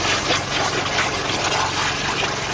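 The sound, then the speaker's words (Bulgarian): A high-pressure abrasive waterjet metal-cutting machine, working at 700 atmospheres, cuts a 122 mm demonstration training shell: a steady, dense churning of water and machinery, a continuous bubbling roar with a low engine-like hum underneath, holding an even loudness throughout without pauses. “И докато реже демонстрационния учебен 122 мм снаряд, издава бълбукащ звук.”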